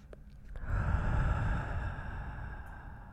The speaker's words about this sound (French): Et c'est parti. Je t'invite à poser ton attention sur le corps et à prendre une grande respiration.